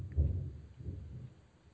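A low, muffled rumble of thunder from very close lightning in a storm rolls through in two heavy swells, the first strongest, then fades into a soft deep murmur. It is fairly quiet, with no voices.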